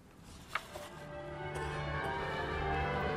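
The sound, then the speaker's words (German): Church tower bells in England, rung by bell ringers, ring in a dense, overlapping peal, their ringing tones sustaining and building slightly in volume, with no voices present. “Und von all diesen Türmen hört man in diesen Tagen das Glockenspiel.”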